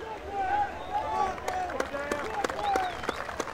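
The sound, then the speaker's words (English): A crowd at a deadlift competition cheers and shouts encouragement to a lifter, with overlapping voices rising and falling and scattered sharp claps throughout, at a steady, moderately loud level. “Some encouragement from the crowd.”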